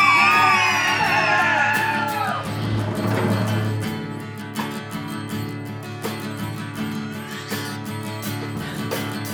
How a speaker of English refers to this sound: Scream!